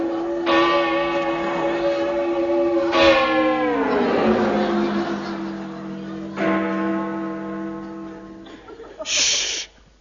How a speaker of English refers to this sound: No, it was the clock.